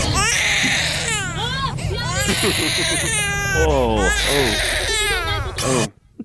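A baby screams loudly and without pause in high, piercing wails that swoop up and down in pitch, with a low rumble underneath, before stopping abruptly.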